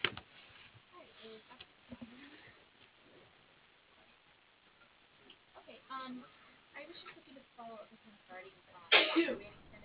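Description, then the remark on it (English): A single sharp, loud sneeze bursts out near the end, after a stretch of faint, muffled voices on a band-limited phone-like line. “Bless you.”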